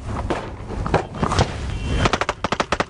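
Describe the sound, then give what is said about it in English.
A rumbling, noisy stretch gives way to a rapid, evenly spaced string of sharp, loud cracks, about ten shots of automatic machine gun fire in quick succession, fired at a CNN news convoy as it runs a checkpoint, with no voices. “We have come under automatic machine gun fire.”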